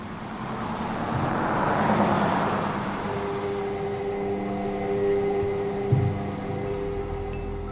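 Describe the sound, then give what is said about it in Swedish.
Steady low-frequency rumble of road traffic, a broad swell as a vehicle passes early on, then a droning engine hum with steady tones settles in, with a brief thump near the end. No talking. “Vi utsätts dagligen för lågfrekventa ljud, som exempelvis dessa.”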